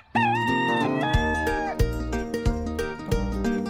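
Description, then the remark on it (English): A drawn-out rooster crow opens a short, loud jingle for the chicken or egg game on Way FM's The Wally Show, followed by bouncy clucking-style musical hits with a steady beat. No one speaks. “We're going to give you a chance to win a prize here with the chicken or egg game.”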